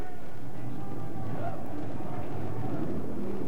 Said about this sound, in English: Police motorcycles are revving up again.